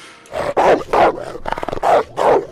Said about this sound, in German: Wolf.